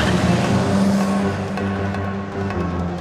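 A coupe's engine is started and runs with a loud, steady low hum and a droning tone as the car drives off from outside a station. There is no talking.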